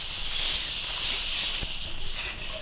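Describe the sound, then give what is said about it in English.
A steady, broad hiss like escaping steam, heard in a library, runs unbroken for the whole stretch, bright and airy with a few faint soft ticks beneath it and no voices. “I think I hear steam escaping.”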